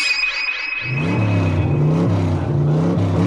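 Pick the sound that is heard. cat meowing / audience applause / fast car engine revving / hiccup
fast car engine revving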